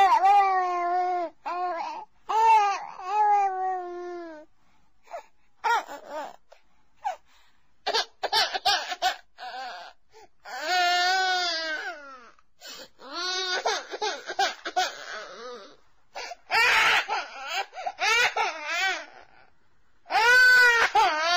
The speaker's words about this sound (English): Which sound is more disturbing, the crying child or the total absence of footsteps from anyone coming to help?